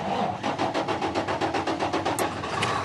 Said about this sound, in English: He's starting the engine of his shiny new big rig, which he drives for a living, score one for jobs. He uses it to haul containers of stuff made in China from the ports out to warehouses, where they're sent to stores and sold to us.